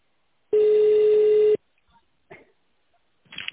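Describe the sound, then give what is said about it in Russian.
A telephone ringback tone as a call to a company is transferred to the secretary: one steady, loud, mid-pitched beep lasting about a second, followed by near silence with a few faint rustling and breathy noises. “Звонок переводится на секретаря.”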